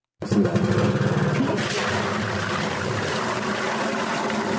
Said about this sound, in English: That is a water tanker pouring water into a 250-liter water tank in Juba's Gurey residential area.